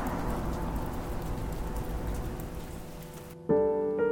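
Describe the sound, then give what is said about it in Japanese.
A steady, soft, fine misty drizzle hisses evenly for several seconds, then cuts off abruptly and a sustained tonal note takes over at the end. “鬱陶しく降り続ける霧の音は妙に精神をざわつかせる。”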